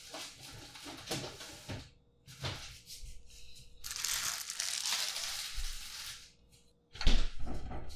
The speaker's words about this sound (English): Okay, since the fridge is making noises anyways, I might as well put this stuff in the fridge now. I've been avoiding it. In you go.